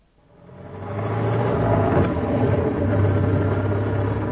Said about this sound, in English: It's a bit slippery, I'm afraid. The car tends to slide about, even with the chains. It's much worse than on the way over.